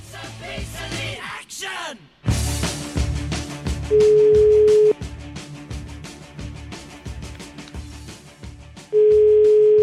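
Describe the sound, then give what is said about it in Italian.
Two steady, single-pitched ringback tones sound about five seconds apart, each lasting roughly a second, from an outgoing phone call to the new mayor of Cascina, Italy, over rhythmic background music. “Io farei una telefonatina a questo neo sindaco di Cascina.”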